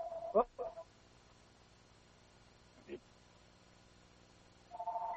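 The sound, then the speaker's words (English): A phone rings in short warbling tonal bursts, one near the start, a brief chirp in the middle, and another beginning at the end, fairly faint. “I should know better than to leave the phone on.”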